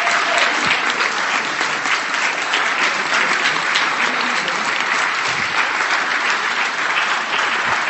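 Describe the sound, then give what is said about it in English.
Sustained applause from an audience, given to encourage volunteers to come up, a dense, steady patter of many hands clapping at an even loudness throughout, with no voices standing out. “And in order to encourage them, would you mind ever so much, start giving them a bit of a round of applause, and somebody come on up.”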